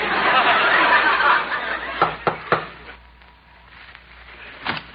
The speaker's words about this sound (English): I'll knock on the door.